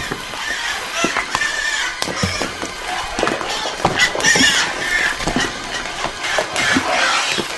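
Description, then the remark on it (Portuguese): A herd of pigs rushing downhill toward a lake squeals frantically and continuously, shrill overlapping cries rising and falling, with scattered thumps and scuffling like hooves rushing along, fairly loud throughout. “Os demônios foram e entraram nos porcos. E estes se atiraram morro abaixo, para dentro do lago.”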